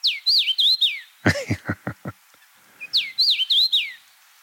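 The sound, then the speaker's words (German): Common rosefinch song: a clear, slurred whistled phrase of several rising-and-falling notes, given twice, separated by a quick run of louder, harsher clipped notes. Bright, with no talking. “Richtig, genau, der Kamingimpel. Wir spielen ihn einmal ab.”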